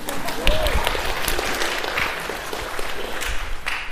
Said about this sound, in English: Great job. Applause. Thank you.